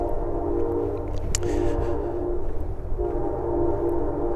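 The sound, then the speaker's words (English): A train horn sounds from a distance in a long, steady blast with a brief break, carried over the low rumble of a passing Amtrak train moving through town at 60 to 70 miles an hour in Chester, Virginia. Nobody speaks. “I'm trying not to talk a lot as I walk and record, so you can kind of just hear the sounds here, like the train in the distance.”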